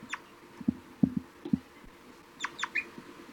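An adult bird, labelled 3-3, gives several short, low toop calls in an irregular series, followed by a quick cluster of higher, thin begging notes from a juvenile bird. Both are fairly quiet, with no talking.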